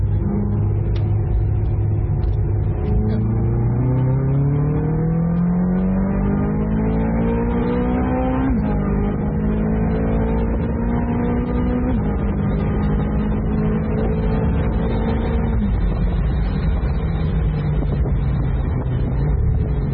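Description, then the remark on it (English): A convertible car, driven with the roof off, accelerates hard out of a hairpin bend, its engine pitch climbing steadily and dropping briefly at several gear changes before rising again. Loud throughout, with no voices. “I'm going to throttle it out of a little hairpin.”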